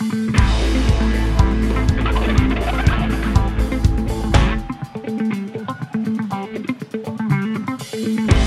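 Pigeons bustle and flap in a dense, loud racket, then quick irregular taps ring out as a small ball is knocked back and forth amid the birds' fluttering, as pigeons trained through reinforcement play a sort of ping pong, each trying to get the ball past its opponent.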